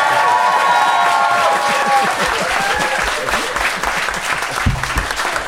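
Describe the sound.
A crowd applauds steadily to vote for the side they think made the best case, dense clapping filling the whole stretch at a loud, even level, with faint cheers and voices mixed into the wash of claps.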